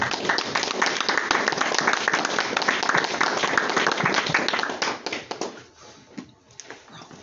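A crowd claps steadily in a dense, even wash of applause for about five seconds, then it thins out and fades into a few scattered claps.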